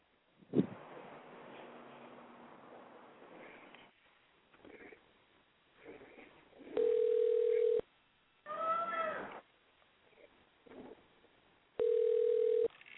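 A telephone call being placed: a sharp click, faint dialing sounds, then a steady, low electronic phone tone that repeats in two one-second bursts with a gap between, loud against a quiet background.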